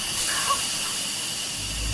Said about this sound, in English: The plumbing hisses and screams like broken hydraulics when the air pockets from the new installations get pumped out. Now, it gave us a real fright a few nights ago, but we've gotten used to